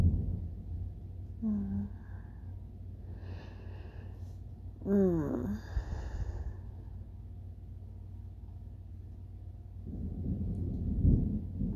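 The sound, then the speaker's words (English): A low, steady rumble of thunder during a storm runs throughout, swelling slightly near the end, with a few brief breathy vocal sounds early on. “It's been thundering for a while.”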